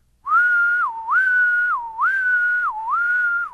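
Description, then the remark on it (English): A person whistles an imitation of the 'court two' courtship song of a male Decem insect: four steady, sustained mid-pitched phrases, each dipping briefly lower before rising again, loud and alone without speech. “And then he'll shift over to court two if you do the clicking right.”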